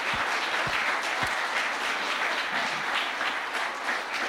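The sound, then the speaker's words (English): A church audience applauds the fathers on Father's Day steadily for about four seconds, a dense, even wash of many hands clapping at once with no voices standing out. “So let's give a round of applause to all the papas.”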